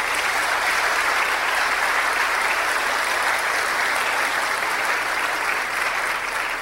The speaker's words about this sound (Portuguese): Deem uma salva de palmas para eles.